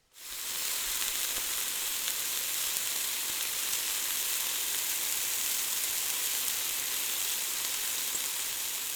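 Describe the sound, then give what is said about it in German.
Chicken sizzles loudly in a frying pan, the hiss starting abruptly and then holding steady and crackling for several seconds, with no voices. “dann schmeißen wir es eben auch noch in die Pfanne.”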